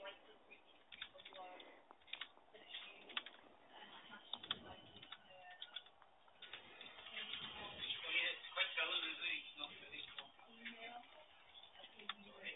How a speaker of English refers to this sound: I'm just typing up about the time he was a fisherman.